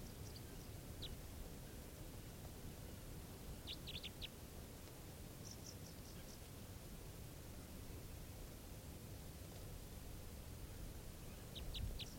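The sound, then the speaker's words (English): A bird calls in short, high-pitched chirps that come in small clusters every few seconds, fairly faint over a steady background hiss, with no one talking. “Recording the bird's calling now.”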